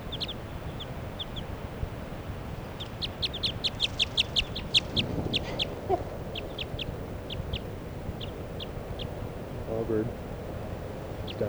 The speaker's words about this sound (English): And this other female is perched right next to the truck. And that's her calling. Sort of an alarm call there.